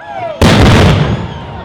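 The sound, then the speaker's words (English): A single loud cannon blast booms out suddenly at a bateau festival on the James River, its broad roar lingering for about half a second before trailing off into a faint outdoor background with chatter. “That cannon sound from the James River Bateau Festival represents the Ohio Valley's role in the French and Indian War between England and France over control of North America.”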